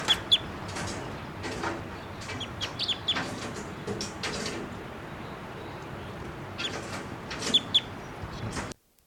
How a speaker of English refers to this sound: Okay, the first two birds that were captured will be 687 female, 688 the male, and the last bird that was just calling there was collected, and he'll be 689 JGG 612, and he was also photographed with a 500 millimeter lens just prior to collection.